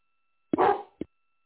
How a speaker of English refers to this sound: Our garbage man just went through, so the dogs are going crazy.